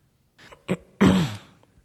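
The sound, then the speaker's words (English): A man, a reporter, coughs: a couple of short, rough bursts followed by one louder, drawn-out hacking cough with a gravelly voiced edge, then quiet. “the next little section right after his cough is some kind of private soliloquy”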